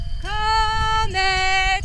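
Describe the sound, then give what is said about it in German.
A loud, drawn-out lowing call in two sustained parts, steady and tonal, over a low rumbling background, as cows are brought down a mountain in the evening. “Abends hole ich die Kühe vom Berg runter.”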